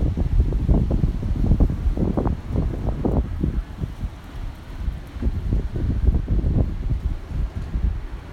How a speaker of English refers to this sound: I'm not sure if you heard that. That was not traffic. That was actually the wind going through the trees.